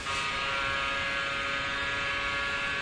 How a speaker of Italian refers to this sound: Noi qua siamo sulla macchina di Alonso. Sentite il suono.